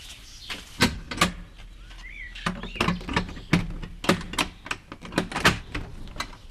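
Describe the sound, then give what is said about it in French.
A heavy wine cellar door at a vineyard in Slovenia being worked open: a series of sharp clunks and metallic rattles at an irregular pace, with a brief creak partway through, and no voices. “Il fallait un Slovène pour l'ouvrir cette porte.”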